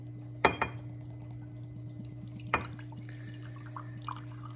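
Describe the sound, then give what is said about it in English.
Don Julio Añejo tequila poured from a narrow-necked bottle: a couple of brief, sharp glugs and splashes, separated by pauses, over a steady low electrical hum with no talking. “Small little neck, takes a while to pour.”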